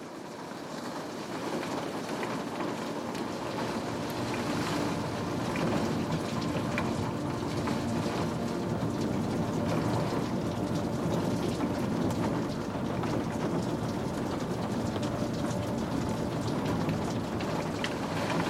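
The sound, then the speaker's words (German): Steady rain falls continuously outside a teahouse, a dense, even patter of drops hitting surfaces with no voices, holding at a constant moderate level throughout. “Die Wärme des Tees in dir, der Klang des Regens draußen.”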